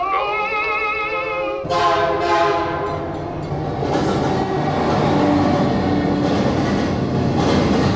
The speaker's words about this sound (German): Leider, und zu diesem Schluss kommt man am Ende der Vorstellung, befindet sich die Hütte in der Nähe eines Bahngleises. Das Opernerlebnis wird schließlich vom nahenden Zug verschlungen.